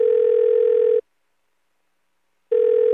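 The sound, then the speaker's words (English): A telephone line tone before a recorded phone call from Carol Burnett connects, made for her 90th birthday: a steady, fairly loud electronic hum sounds for about a second, stops for a second and a half, then starts again. There is no talking. “And it's my hope, as we celebrate her 90th birthday through this recorded phone call, that you will too.”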